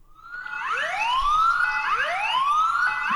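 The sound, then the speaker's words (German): An alarm siren wails loudly and steadily, its pitch sweeping upward again and again in repeated rising whoops with bright overtones. No one speaks over it. “Wir hatten noch einen Alarm.”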